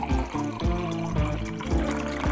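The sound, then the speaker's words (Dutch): Drinks are poured into glasses, with a steady run of gurgling glugs repeating every half second or so, and no voices. “Schenk thuis nog maar eens even lekker de glazen vol. Dat doen wij hier ook.”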